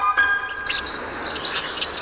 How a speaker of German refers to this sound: hör mal, wer da zwitschert